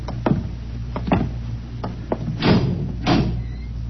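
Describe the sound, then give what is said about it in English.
A door is worked open and shut in pitch darkness: a few sharp knocks and clunks, then two longer scraping swings, over a steady low hum with no voices. “Just a few steps up and another door.”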